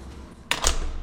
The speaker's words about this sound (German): geht einen langen Flur entlang und öffnet eine schwere Tür.